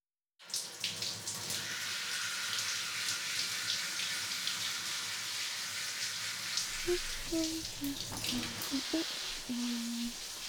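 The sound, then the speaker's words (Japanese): Water runs steadily from a shower sprayer at a salon wash basin beside a beauty treatment chair while the temperature is adjusted, a continuous broad hiss of splashing that starts abruptly, with a few faint tonal squeaks near the end. “熱くないようにシャワーの調整してるから。”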